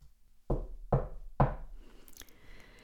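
Three slow, soft knocks on a wooden door, evenly spaced and a little tentative, with no one talking, followed by a faint rustle.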